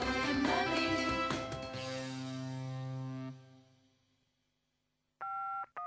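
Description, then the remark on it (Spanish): A fading musical flourish gives way to silence, then two crisp, loud telephone keypad tones beep in quick succession near the end, with no one speaking. “Hola, llamo para vender mi casa.”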